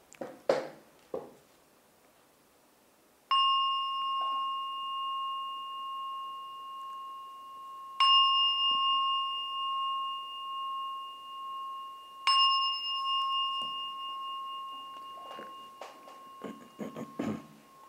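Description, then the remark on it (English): A bell rings three times at slow, even intervals during a meditation session, each strike clear and pure and left to ring out with a long, sustained tone before the next one sounds. “I ring the bell 3 times.”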